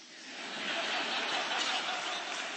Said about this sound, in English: Well, you shouldn't clap, really, because if you followed my argument, you'll see it proves nothing either way.